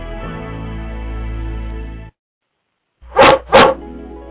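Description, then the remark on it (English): A dog lets out two quick, loud barks in succession over a low background hum, following a sustained tonal sound and a brief silence. “Did you know that dogs talk to us all the time?”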